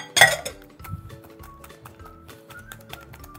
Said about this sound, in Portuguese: E vou ver se eu pego um fouet lá dentro, porque eu acho que vai ser mais fácil de bater. Só um minuto, tá? Eu vou bater um pouco aqui, mas eu não sou boa para bater clara.